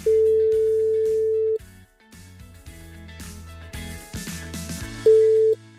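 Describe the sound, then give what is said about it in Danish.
A telephone ringback tone as the hosts of the morning show Morgen på Radio 100 call a listener who sent a text message: a steady electronic tone sounds for over a second, pauses, then returns briefly, all over a loud backing music bed. “Jeg har en sms her. Vi prøver at ringe op.”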